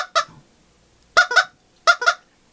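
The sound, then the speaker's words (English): People cluck like chickens in short, loud, honking bursts, mostly in quick pairs separated by brief pauses, clucking out the rhythm of a song. No ordinary speech is heard. “That was good clucking.”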